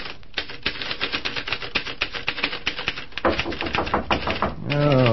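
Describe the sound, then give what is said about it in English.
Rapid typewriter keys clatter in an uneven, busy rhythm for several seconds as a man works at his typewriter around 1 o'clock in the afternoon, followed by a few heavier knocks on a door before a man's voice starts speaking at the end. “Well, right now it's about 1 o'clock that same afternoon, and Tom is working away at his typewriter when the knock comes on the door.”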